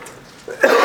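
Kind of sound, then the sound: human body sound, coughing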